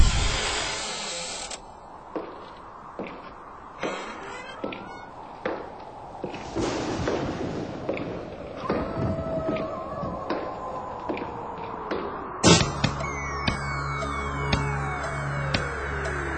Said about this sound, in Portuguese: Essa portinha sinistra, esses sons fantasmagóricos, esses passos dando a ideia de uma coisa mó assombrada, enfim, todo esse conjunto de coisas aí, a gente já sabe do que se trata.